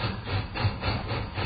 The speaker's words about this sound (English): It's a train. It's a good thing, too. All trains are good things, I say.